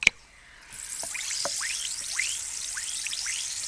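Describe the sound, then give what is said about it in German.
A steady, bright fizzing hiss with scattered little popping, chirping bubbles rising through it, as an effervescent tablet dissolves in water, with no voices. “Oder würden Sie gebannt zuschauen, wie eine Brausetablette versprudelt und wartet, bis sie komplett im Wasser aufgelöst ist?”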